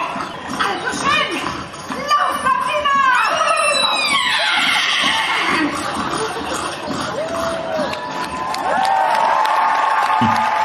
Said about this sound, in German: Völlig zu Recht Applaus. Das muss man auch erstmal können.